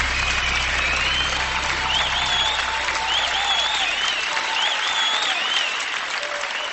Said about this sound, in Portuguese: Se essa salva de palmas é para Jesus, bata, porque ele merece.